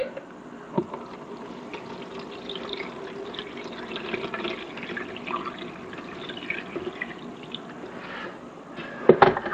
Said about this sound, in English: This Bun coffee maker does not take a lot of grounds to make a pretty nice cup of dark cup of coffee.